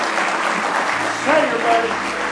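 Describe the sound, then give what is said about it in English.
An audience claps their hands in praise of the Lord, a steady, dense wash of applause that swells slightly midway, with a few voices calling out over it. “Well, just give him another good hand clap of praise tonight.”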